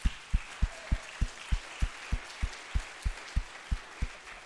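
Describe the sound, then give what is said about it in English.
Crowd applause for a man as he walks out to get a baby spreads as a steady, hissing wash of clapping, carried over a regular pulse of low thumps roughly three per second. No one speaks. “And we all, as he walks out to get the baby, need to applaud because he has played it extremely well.”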